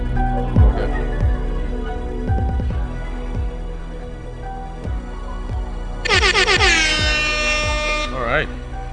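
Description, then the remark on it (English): A loud, blaring air horn blasts in stacked bright tones near the end, layered over a thumping beat with a steady kick drum and busy music underneath. “Sleep time's over is back. That's the air horn.”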